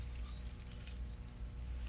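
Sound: keys jangling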